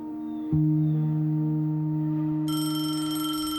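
A telephone rings with a steady, sustained tone that starts abruptly and turns brighter and harsher near the end, fairly loud, with no one speaking, before it is answered by Lureen.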